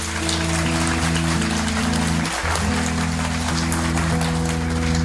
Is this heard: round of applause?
yes